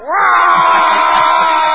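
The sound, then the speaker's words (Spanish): A person suddenly lets out a loud, sustained shriek that bursts in abruptly and holds for over a second at full strength, an imitation of a scream meant to startle someone who has the hiccups. “Y de golpe aparezco yo entre sus piernas al grito de...”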